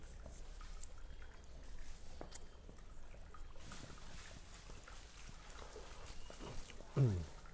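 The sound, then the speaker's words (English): A small decorative fountain with a lit-up ball rolling in it trickles steadily at a low level in Guilin, with indistinct voices murmuring in the background and a brief louder vocal sound near the end. “What is that water I hear? Is that like a little fountain?”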